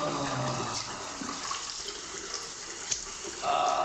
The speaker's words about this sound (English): Sarge turns on a faucet and wets his hands.